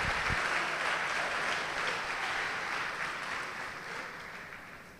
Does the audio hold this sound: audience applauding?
yes